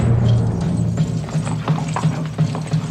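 Horses are held at a city wall gate as their riders dismount. Their hooves clop in a steady, uneven shuffle over a low rumbling background, with occasional scuffs and stamps as the animals move about. No one speaks.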